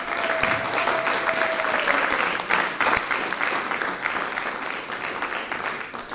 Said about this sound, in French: Vous pouvez applaudir le premier poète à ouvrir la scène.